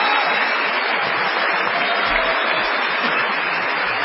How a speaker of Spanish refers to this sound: Vamos a saludar con una ovación inolvidable a Patricio Barto.